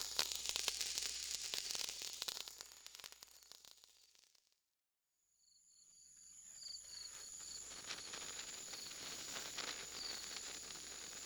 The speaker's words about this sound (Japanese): 線香花火って私好きだな。小さくて可愛くて、でもなんだか寂しい気分になっちゃう。